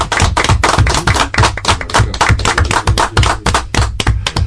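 Steady audience applause, a dense, loud patter of many hands clapping continuously for several seconds with no voices over it.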